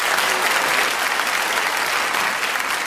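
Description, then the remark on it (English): Sustained applause from an audience at the BBC Radio Theatre welcoming the four panelists of the radio show Just a Minute, a dense steady wash of clapping hands that stays loud and even throughout without any voices breaking through. “Would you please welcome all four of them?”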